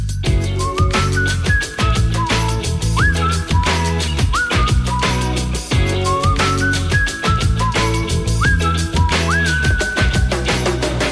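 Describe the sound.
A whistled melody with sliding notes rides over a full, steady band groove of drums, bass and guitars, repeating its phrase loudly up front as a song opens, with no voices.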